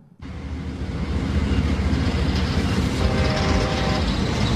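A train sound effect from the jingle of the radio show Programa Igor Loyola: a loud steady low roar with rattling wheels and faint clickety-clack, building quickly at the start and holding strong throughout with no voices.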